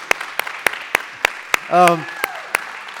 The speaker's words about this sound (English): They're doing a standing ovation.